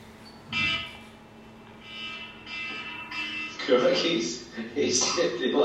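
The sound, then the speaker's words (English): A steady, high-pitched alarm tone, set off by a person, sounds continuously through the whole clip, fairly faint, while muffled voices and other noise come and go over it. “Correct, he's set the alarm off, man.”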